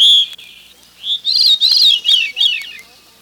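A small, shy woodland bird with a rufous brown back and lightly spotted white underside sings at dusk a clear, rising and falling phrase of bright whistled notes, loud, in a quiet outdoor setting with no other sounds around it.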